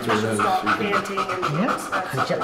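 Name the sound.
dog breathing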